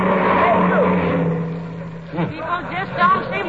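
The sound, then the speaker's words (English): A car engine hums steadily as it drives past without slowing or stopping for hitchhikers out in South Wistful Vista, its drone fading after a couple of seconds as a voice begins talking. “People just don't seem to pick up hitchhikers nowadays, dearie.”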